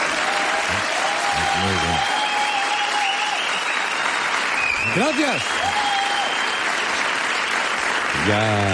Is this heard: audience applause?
yes